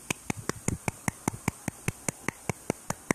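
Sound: hands clapping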